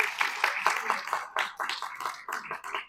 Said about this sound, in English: Well-deserved applause